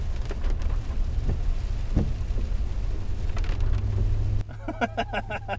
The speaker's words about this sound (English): And now for some ASMR rain.